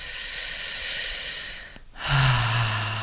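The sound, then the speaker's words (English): A slow, deep inhale, a brief pause, then a long audible exhale with a low, sighing hum to it, during a guided breathing exercise of breathing down into the pelvic floor. “on these next set of breaths, I want you to bring the breath all the way down into your pelvic floor, letting the muscles in your butt relax and really breathing down into your cock or your pussy and connecting with your erotic energy in your body.”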